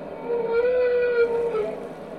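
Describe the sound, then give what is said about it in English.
A humpback whale gives a single loud, low trumpet-like blast, a sustained brassy tone lasting over a second with a slight pitch wobble, over a faint underwater hiss. “Humpback whales vocalize in other ways. The most common is a loud, low, trumpet-like blast, which may be used to herd schooling fish or coordinate feeding activities with other whales.”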